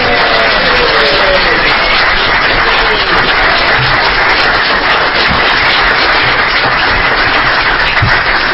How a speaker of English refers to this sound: Okay, now we're going to clap for the whole team.